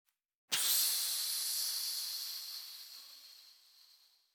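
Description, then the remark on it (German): A single long, breathy shush from a voice, a sharp hissing 'psst' imitating how Jesus silenced the storm on the lake. It starts abruptly and then slowly fades away over a few seconds, with no talking. “Er hat gesagt, eigentlich hat Jesus Folgendes gemacht zum Sturm.”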